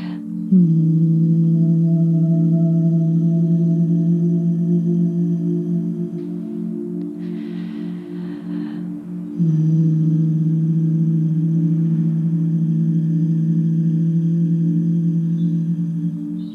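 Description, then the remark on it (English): A steady, low-pitched humming buzz from a human voice, imitating a bee, in a calming breathing exercise called the buzzing breath of life. It is held for several seconds, breaks briefly for an inhale, then resumes at the same low, droning pitch. “Called the buzzing breath of life.”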